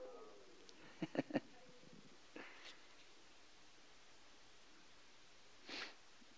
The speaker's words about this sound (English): 1 John chapter 2. 1 John chapter 2. Praise you, Lord. It's good to hear the pages turning on a Tuesday night.